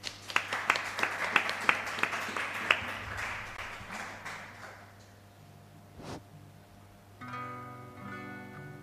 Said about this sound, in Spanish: Un fuerte aplauso.